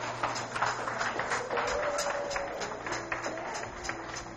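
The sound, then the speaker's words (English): A church audience claps steadily for several seconds after a baptism, giving the Lord a hand clap: a dense patter of many hands with sharper bursts, over a low steady hum and a faint sustained tone. “Let's give the Lord another hand clap for that.”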